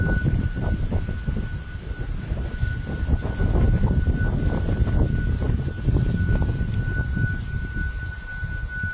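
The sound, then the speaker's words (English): Wind howls around the new luxury Shoreline flats apartment block on the seafront in Folkestone: a steady, unbroken high-pitched whine holds over loud, gusty low rumbling for the whole stretch, with no voices. “It's thought to be coming from a new luxury apartment block right on the seafront when it's windy.”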